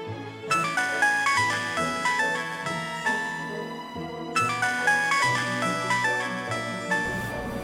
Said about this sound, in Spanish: Sí, escuché el teléfono.